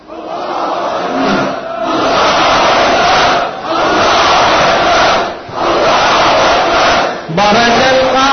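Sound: crowd shouting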